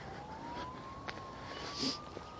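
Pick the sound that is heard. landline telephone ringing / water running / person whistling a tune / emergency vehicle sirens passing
emergency vehicle sirens passing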